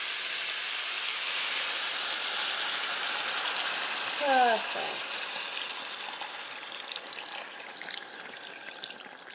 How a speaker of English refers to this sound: Well, this has been stir frying for a couple of minutes. Just brown those off, and I'm just going to add just over a pint of water in here.